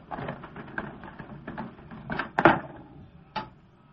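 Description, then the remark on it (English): Garage doors being opened: a run of rattling, clattering mechanical knocks, with a few sharper, louder clunks toward the end and no voices. “Come on, into the garage. Yeah, I'll get the doors.”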